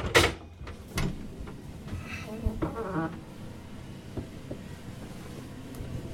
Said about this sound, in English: So we're going to go through this watertight door here.